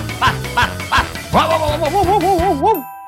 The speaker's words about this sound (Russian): Кенгуру поскакала вперед, а пес погнался за ней. Они пробежали по долине, перескочили через ручей и взобрались по склону холма, а пес все время лаял.